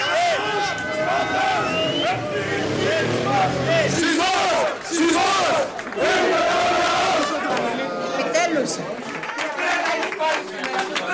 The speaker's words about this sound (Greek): Όταν αργά το βράδυ φτάνει στα γραφεία του Λαός ο Καρατζαφέρης, το πλήθος είναι ασυγκράτητο και φωνάζει το σύνθημα «Λαός, στρατός, εθνικισμός».